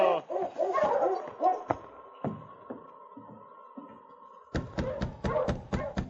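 King, Sergeant Preston's great dog, yelps and barks excitedly on a hard-packed trail, then lets out a long, high, steady whimper before breaking into a quick run of sharp barks near the end.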